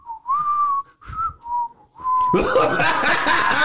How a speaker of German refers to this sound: Wer pfeift? Ich kann nicht pfeifen.